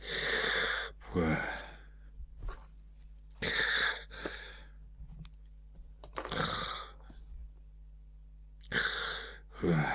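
A man snores steadily while asleep on a couch in a drawing room, his head on a gold-embroidered silk pillow, each rasping inhale followed by a breathy exhale, repeating in a slow rhythm about every two and a half seconds, fairly loud with no talking.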